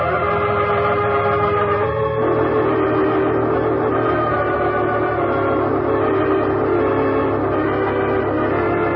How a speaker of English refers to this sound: Here comes the train.